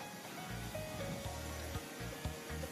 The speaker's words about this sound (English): And what's he spraying on there? Like a metallic salt spray.